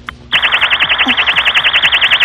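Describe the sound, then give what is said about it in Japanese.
A loud, piercing electronic crime-prevention alarm, set off by tapping a device's screen in its emergency function, blares continuously with a rapid warbling pulse, starting abruptly after a brief quiet moment and holding steady to the end. “はい、 まず防犯ブザーなんですけど、こんな音が出ます。”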